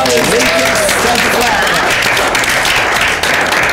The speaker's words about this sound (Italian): E allora, i … ci hanno raccontato questa sera di Dinamo Camp, fateli un applauso!